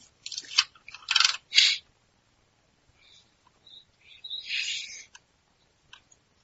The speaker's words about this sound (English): Sorry, I was just typing a message there to somebody.